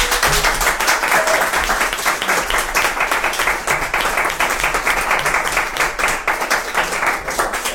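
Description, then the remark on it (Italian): An audience applauds the band after their improvised live a cappella performance, a dense, continuous wash of many hands clapping at an even loudness without pause. “Direi di rientrare con un applauso ai ….”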